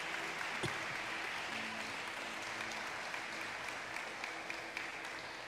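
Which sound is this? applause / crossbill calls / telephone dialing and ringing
applause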